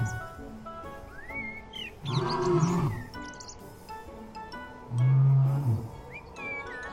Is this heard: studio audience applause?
no